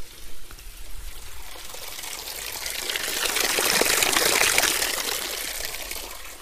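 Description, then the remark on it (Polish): Water runs and splashes steadily through a small hollowed-out wooden trough, not plastic or pipes, turning a little water wheel; the water is collected from a neighbouring mini reservoir. A soft continuous trickle that swells louder midway before easing slightly, with no voices. “Obok podejdziemy, zobaczymy kołowrotek, który też daje delikatniejszy dźwięk.”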